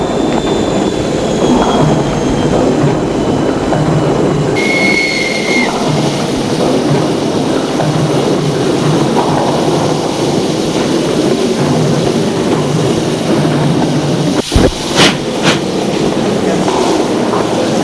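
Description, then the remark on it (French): A train bound for Paris rumbles steadily as it gets under way after its doors close and the departure whistle sounds, with a brief high whine early on and a few sharp metallic clacks near the end; no one speaks. “Et le train se met en route.”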